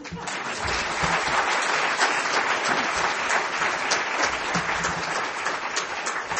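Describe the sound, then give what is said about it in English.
Steady audience applause for the speakers and poster presenters at the close of a meeting, many hands clapping at once in a dense, even wash of sound that holds at a fairly loud level for several seconds without letting up. “Now you may clap.”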